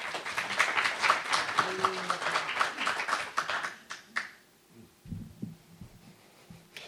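An audience breaks into applause for a man invited up to share, a dense, steady patter of many hands clapping for about four seconds before it tapers off, followed by a few soft, low thumps.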